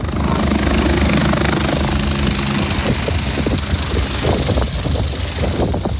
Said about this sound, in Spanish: José, nuestro piloto cierra la puerta y el helicóptero empieza a subir para acercarse al foco activo.